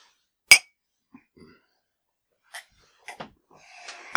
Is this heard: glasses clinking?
yes